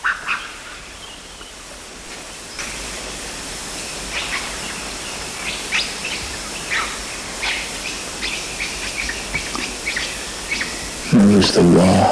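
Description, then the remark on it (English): A bird gives a scattered run of short, high rattled male-like squeals and quick sharp quiss call notes over faint background hiss, ending with a louder, lower harsh bark, all from one unseen source. “Rattled male-like squeals, quiss, and a bark, same date as preceding. They were all from one source, but he wasn't seen.”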